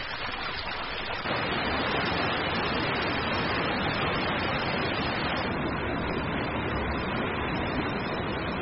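Loud, steady rushing of fast river water swollen by snowmelt in Yellowstone, a dense continuous roar of water churning downstream, unbroken from start to finish.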